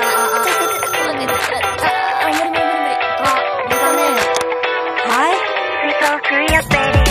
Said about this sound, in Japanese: いや、てか電話鳴ってるって。